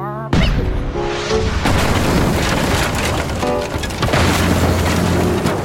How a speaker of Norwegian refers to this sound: Sikt kanonene mot den skuten. Aye, aye, sir. Skyt partybåten.